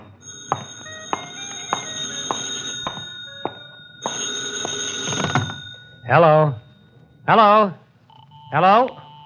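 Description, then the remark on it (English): A telephone rings in a booth, three warbling bursts about a second apart, following a stretch of clattering, buzzing background noise. “Where's your phone? In that booth over there. Hey, maybe that's your call now.”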